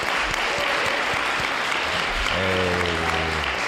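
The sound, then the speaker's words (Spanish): Sustained audience applause for a departing guest, a dense wash of clapping hands at steady volume, with a low hum or voice-like tone rising briefly underneath toward the end. “Bueno, pues yo creo que tenemos que darle un grandísimo, fortísimo aplauso a”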